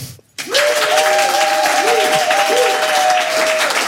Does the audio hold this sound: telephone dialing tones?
no